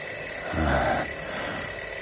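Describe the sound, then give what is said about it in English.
An alarm clock bell rings at exactly 5 o'clock at dawn in the bedroom of a house on the edge of a city, a steady, continuous loud clatter, swelling briefly near the middle before settling into a sustained jangle with no voices. “In the bedroom of a drab, unprepossessing house on the edge of the city, the hand on the alarm clock moves remorselessly. And at exactly 5 o'clock, the alarm is sounding.”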